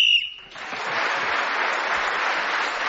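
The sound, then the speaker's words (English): A single short, shrill whistle blast on a panel game show, blown to end a round while Clement Freud was speaking, rings out clearly, then quickly gives way to a steady wash of audience applause that carries on to the end. “Clement Freud was then speaking as a whistle went, gained that extra point, and he's now just 1 point behind our leader, Jenny Eclair.”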